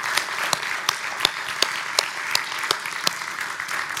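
A church audience breaks into a steady round of applause for the multimedia ministry director and his crew, dense crowd clapping with a few sharper, louder claps popping out at regular intervals, sustained for several seconds with no voices.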